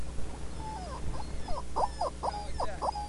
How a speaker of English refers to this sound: So this is what he sent. He sent this rubber chicken. It sits here and makes this noise.